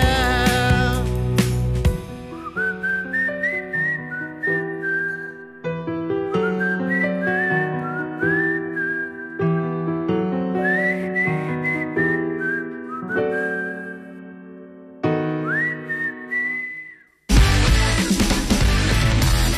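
Someone whistles a lilting melody with smooth sliding notes over a soft instrumental accompaniment, steady and fairly loud, before a burst of fuller, brighter music cuts in at the end.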